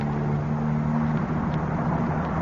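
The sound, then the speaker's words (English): A lorry engine on the Fulham Road drones steadily, a low, even rumble whose pitch wavers a little halfway through as the lorry turns off, with no voices. “The lorry's turning off.”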